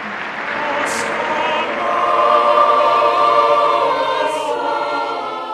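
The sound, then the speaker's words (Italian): A large crowd waving flags of dozens of nations applauds and cheers Benedict XVI before the Easter Regina Coeli prayer, a dense, steady roar of clapping mixed with many raised voices, swelling slightly midway and holding strong throughout. “Prima di intonare la preghiera mariana del Regina Coeli, tra lo sventolio di bandiere di dozzine di nazioni e moltissimi applausi, Benedetto XVI ha inviato gli auguri di Pasqua all'intero pianeta”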